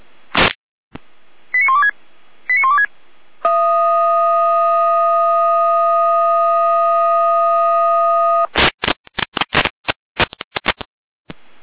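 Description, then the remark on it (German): A fire brigade radio alert signal at 21:09 calling the volunteer fire brigades of Birkenhügel and Blanksberg to several trees on the road near Pottiga: a sharp click, two short warbling tone bursts, then a loud steady chord of tones held for about five seconds, ending in rapid stuttering electronic bursts. “Angelina, mit Alarmierung.”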